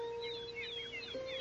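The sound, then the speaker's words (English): Young birds chirp for their mother in a quick, continuous chatter of thin, high peeps, soft, over a steady low hum with no one talking. “That's those young birds chirping for their mama that's never coming back.”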